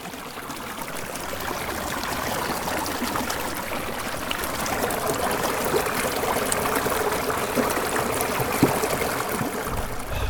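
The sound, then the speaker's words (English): Steady babbling of a creek running over rocks, a continuous rush and trickle of water with no voices, holding an even level throughout. “When the sounds of the creek aren't enough, I put on some chill, cool music to help me mentally drift away even more.”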